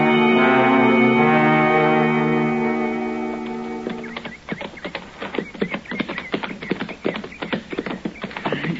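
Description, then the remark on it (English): A sustained, droning musical tone gives way to horse hooves clip-clopping in a quick, steady rhythm, fairly loud, with no voices. “We better leave our horses here”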